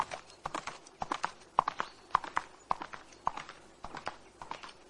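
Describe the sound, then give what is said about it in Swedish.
Horse hooves clip-clop in a steady, quick rhythm as riders ride off to Tulipagården, each sharp knock ringing out clearly with no voices over it. “Vi redde iväg till tulipagården.”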